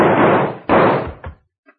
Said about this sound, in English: Hey, what's that shooting over there?